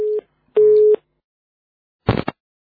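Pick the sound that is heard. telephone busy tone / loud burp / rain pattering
telephone busy tone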